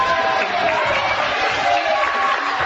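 A studio audience applauds steadily for a few seconds, a dense, even wash of clapping at constant loudness with faint crowd voices mixed in.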